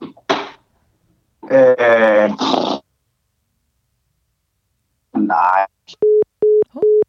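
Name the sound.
phone tone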